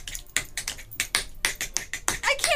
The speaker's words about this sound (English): And now, chick on the street, chick on the tap, will do a little tap dancing for us.